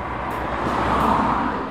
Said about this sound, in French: S'arrête de temps en temps pour regarder passer les voitures.